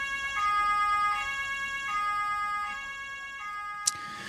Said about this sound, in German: Oder Einsatzkräfte von Polizei oder Feuerwehr schaffen sich mit ihren Sirenen Platz auf der Straße.